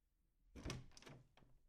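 door opening

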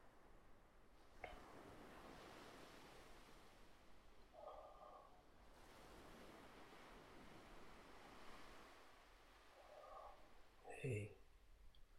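ocean waves

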